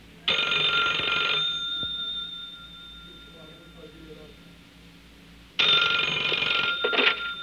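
A telephone rings in two loud, bright bursts about five seconds apart, each a steady electronic trill lasting over a second, with quiet room tone between them and no talking.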